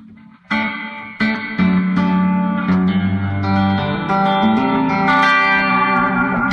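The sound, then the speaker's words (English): Electric guitar chords and notes played through a simulated Fender amp model with the reverb turned up to exaggerate it, each strum smearing into a long washy tail that blends into the next. Loud, no talking. “Let's go in here and actually turn up the reverb, exaggerate it.”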